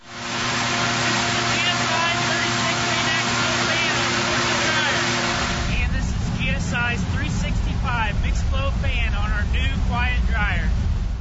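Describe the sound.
A loud, steady drone from a vane axial fan dryer, with a buzzing tonal whine, nearly drowns out a talking voice, then gives way to the much quieter low hum of a quiet dryer as the speech comes through clearly.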